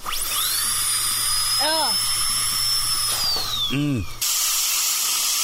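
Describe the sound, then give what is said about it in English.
A dental tool whines at a high steady pitch over constant hissing suction, then slides lower as it stops, with a few brief squeaky chirps, like plaque being scraped off teeth. “Well, normally I really can too, but when they start taking the plaque off and they scrape your teeth, I don't know.”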